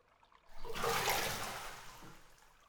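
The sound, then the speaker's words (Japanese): A burst of bath water sloshing and splashing as someone gets out of the bath rises quickly, then fades into draining, trickling water over a couple of seconds, with no voices. “はい、じゃあこれ、お客様がのぼせちゃったら大変ですから、そうなる前に上がって涼みましょうか。”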